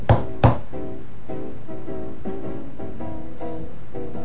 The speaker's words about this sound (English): And so he shouldered his axe and moved forward, right to the doorway. And he knocked on it with his knuckles 3 times.